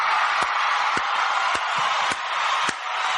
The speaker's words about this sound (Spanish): Aplausos.